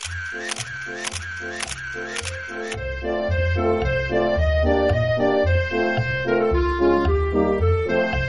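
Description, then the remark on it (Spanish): A camera shutter clicks several times in a quick, regular series over the opening seconds as the first photos are taken with a home-made camera built for an elephant, sharp bright snaps over a tonal backing. A steady melodic musical passage then continues alone. “Así que una vez acabada, pudo hacer sus primeras fotos.”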